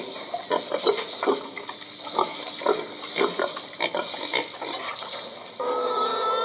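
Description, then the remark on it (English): Pigs grunt in short, irregular bursts at close range over a steady hiss of farmyard background noise. Near the end the grunting stops and a steadier, droning background takes over. “Now, as you can hear, we've moved from the pigs, the lovely pigs, who were being a bit quiet, to the chickens.”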